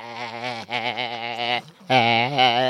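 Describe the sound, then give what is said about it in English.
Sheep bleating loudly, a series of three long, wavering bleats with a brief pause before the last one, and no other sounds around them. “It's hard to tell the difference between the women and the sheep.”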